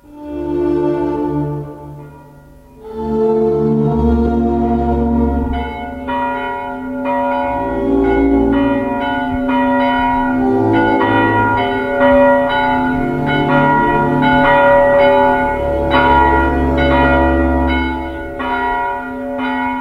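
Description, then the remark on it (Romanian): Church bells toll loudly and continuously for a death, several bells ringing together in overlapping, resonant strikes that fill the whole stretch with a rich, reverberant clangor. “S-a stins în a 11-a zi a lunii lui Prier, leat 1868, în dancăte de clopote și jelit de mulțimi de oameni.”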